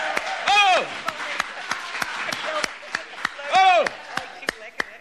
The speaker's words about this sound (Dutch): Applaus, geweldig!